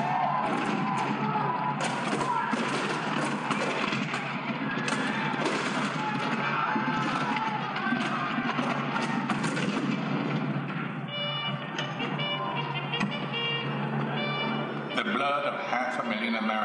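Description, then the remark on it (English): Dense, continuous battle noise of cannon fire and gunfire, marking the start of the Civil War at Fort Sumter on April 12, 1861, loud and steady throughout, with indistinct voices mixed into the din and a tonal layer rising near the end. “The cannon spoke for war.”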